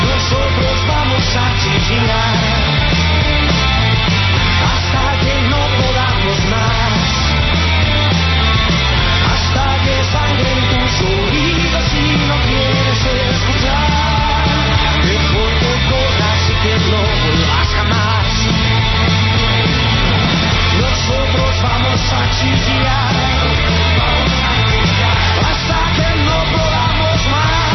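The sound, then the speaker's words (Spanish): A loud indie rock protest song plays steadily throughout, with a dense, driving full-band sound and a heavy low end, continuous with no talking over it. “que en su evolución se han pasado a la canción protesta. Mensaje de protesta de toda una generación.”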